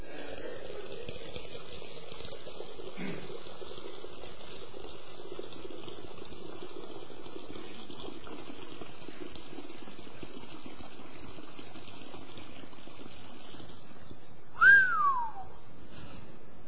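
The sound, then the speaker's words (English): Water is poured from a pitcher over a little kid in a Methodist church, a steady, continuous splashing stream for several seconds, moderately loud, ending with a brief high-pitched squeak that slides downward. “Why does it take so much water for a little kid?”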